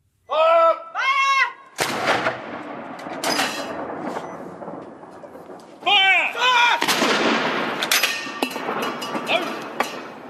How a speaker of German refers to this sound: Feuer! 41 Salutschüsse für Prinz Philip, zur gleichen Zeit am Tower in London, vor königlichen Schlössern in Belfast, Edinburgh und Cardiff, von Kriegsschiffen der Royal Navy und in der britischen Exklave Gibraltar.